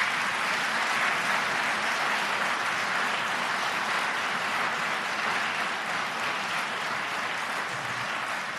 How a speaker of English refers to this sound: I know the way we usually recognize people is by clapping. We're done with worship, so let's give a hand to these folks.